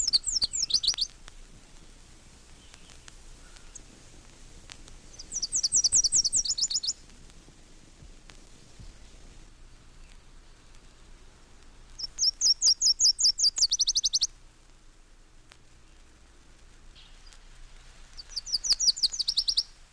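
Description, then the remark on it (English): A Nashville Warbler sings four times in a row, each a bright, rapid two-part trill of high notes, separated by pauses of several seconds, with no voices present. “Nashville Warbler, 6 examples.”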